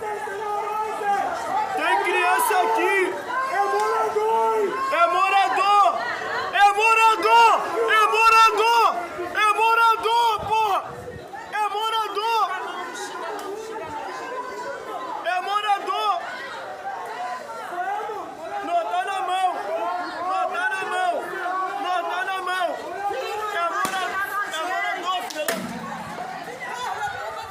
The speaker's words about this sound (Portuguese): Esse áudio que você ouviu é de um vídeo gravado por um morador que estava filmando a ação da polícia lançando o que parecem ser bombas de lacrimogênio.